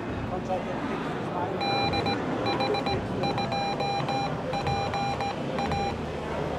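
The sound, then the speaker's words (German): A Morse code call sign keyed as a run of clear, steady tone beeps, short dots and longer dashes in quick groups, sounding over a constant background of rushing noise and murmur. “Ich kann zum Beispiel mein Rufzeichen geben.”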